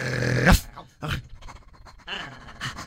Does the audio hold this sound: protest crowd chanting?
no